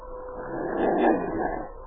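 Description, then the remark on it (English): A single drawn-out howl of a lone female wolf on top of a hill swells to a peak midway and then tapers off, a mournful animal cry heard over a hissy, muffled background for about two seconds. “Sergeant, you hear that? Yes, wolf hunt.”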